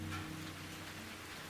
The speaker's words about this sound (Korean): 내 마음을 토닥이는 이 빗소리가 좋다.